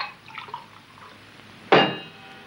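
A man at a bar cabinet pours himself water softly into a glass, a faint splashing trickle, followed by one sharp, ringing clink of glass set down, with no voices present.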